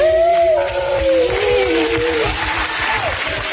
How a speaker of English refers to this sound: I can't believe they're clapping, first of all, but go on.